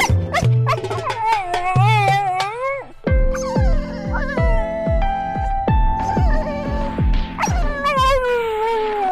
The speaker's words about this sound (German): Das würde mein Hund dazu sagen.